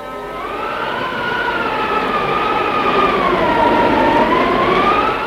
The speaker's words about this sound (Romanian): Iată-l acum pe Fram, înaintând prin zăpadă pe un viscol cumplit.